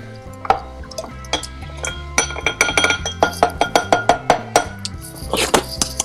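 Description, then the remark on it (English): A small rolling pin, used in place of a muddler, muddles plums in 45 ml of Woodford Reserve bourbon inside a glass: scattered clinks, then a steady run of about ten quick, sharp knocks against glass, with a bright ringing edge and no talking. “So I don't have a muddler at home, so I've stolen a small rolling pin out of the drawer. Now I'm muddling the plums in the bourbon.”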